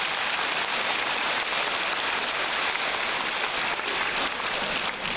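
Steady, dense applause from an audience, a continuous crackling wash of many hands clapping at an even level with no voices, holding for several seconds before easing slightly at the end.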